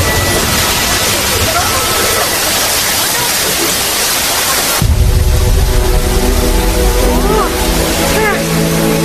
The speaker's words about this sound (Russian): Ну и ливень. А я как раз утром белье вывесила, теперь все промокло до нитки. Что за напасть? Когда нужен дождь, его не дождешься, а тут такое.